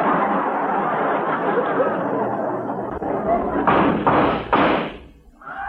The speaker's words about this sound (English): Hey, those shots came from outside the office.